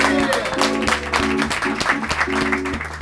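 An audience at a knowledge cabaret in Lund claps steadily for a few seconds for a volunteer, a dense crowd-wide wash of applause over a low, rhythmic musical beat playing underneath.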